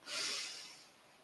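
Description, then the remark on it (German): A single deep inhalation, clear, a breathy airy rush that swells quickly and then slowly tapers off, heard alone without any talking, taken during a guided relaxation breathing exercise. “Atme tief ein”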